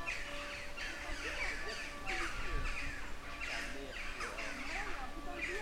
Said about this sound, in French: Nous voici dans la Venelle. On ne voit pas un humain. On entend beaucoup d'oiseaux, surtout des choucas.